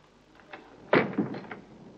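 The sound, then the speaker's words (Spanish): A woman shuts a door with a solid thump, followed by a couple of softer knocks and rattles as it settles, moderately loud with no one speaking. “Pasa entonces y cierra la puerta. Ella lo hace.”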